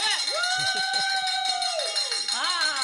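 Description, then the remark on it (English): A hand bell rung with gusto to mark a new apostle joining, its bright metallic clang repeating rapidly as the clapper strikes, holding a sustained ringing tone for a couple of seconds before swelling again. “we get to pick up the bell and ring it once”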